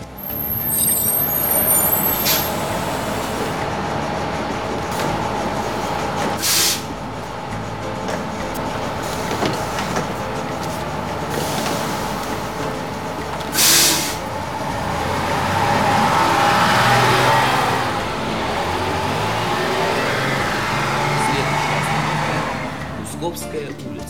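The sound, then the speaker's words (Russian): A bus arriving, its engine rumbling steadily, broken by several sharp hissing bursts of air brakes, with a longer whooshing release near the middle; faint voices murmur underneath. “Ну, слава богу, что не опоздали, и что автобус вовремя прибыл.”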